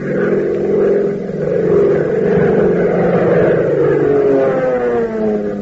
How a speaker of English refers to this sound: Fellas and girls, as you listen to the roar of Hop Harrigan's plane as he brings it in, doesn't it make you think of Uncle Sam's fighters and bombers that are right this minute making the Nazis and Japs wish they'd never started this war?